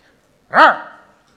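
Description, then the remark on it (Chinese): A person gives a single loud bark imitating a dog that answers the phone, one bark meaning someone is home, a short rising-and-falling yelp that fades quickly into quiet. “叫一声。在。”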